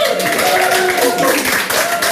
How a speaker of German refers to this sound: Vielen Dank für die Lesung und ich würde sagen, klar, Sie trinken und sind fröhlich, aber einen Applaus würde ich schon auch gerne hören.